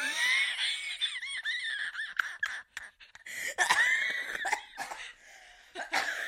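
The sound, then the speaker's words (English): A loud coughing fit: a long run of harsh, irregular coughs and hacking bursts, mixed with strained, voiced gasps and wheezy sounds in between, with no clear speech. “We're having a coughing fit on the podcast.”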